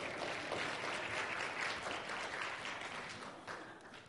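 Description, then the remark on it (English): Sustained audience applause for a man who has just read a Bible passage aloud, a dense wash of many hands clapping at a steady loudness for about four seconds before easing slightly at the end. “Round of applause for Don.”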